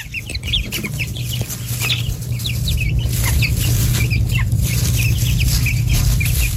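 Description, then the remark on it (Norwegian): In a henhouse yard, many chicks peep in quick, high chirps scattered throughout as they walk around keeping contact with each other and their mother, with the hen's low clucking underneath and a steady hum in the background, moderately loud. “Her hører vi kyllinger, og dette jo fornøyde kyllinger som går rundt og bare holder kontakten med hverandre og moren”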